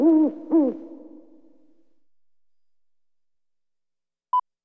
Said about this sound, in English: O is for owl.